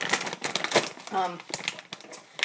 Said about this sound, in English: I'm just getting scissors.